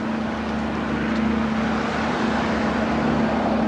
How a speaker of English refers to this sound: Later the same day, I'm on the Galata Bridge, facing west. My left, the Sulaimaniye ferry boat heading in here toward the bridge, toward the Asian side.